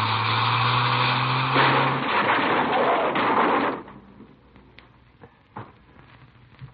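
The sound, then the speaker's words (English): A car crash as a car is driven into another car to stop it from driving off: a droning engine gives way to a loud, sustained burst of crunching, roaring noise, which cuts off abruptly into quieter rattles and a few sharp clicks of settling debris. “He's driving off. What? He's leaving. He isn't going to wait. I'm going to stop him. I'll stop him. What are you doing? Hang on. We're going to hit.”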